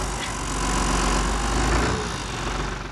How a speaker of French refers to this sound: Alors accrochez-vous, ce matin je vous emmène faire un tour de tracteur.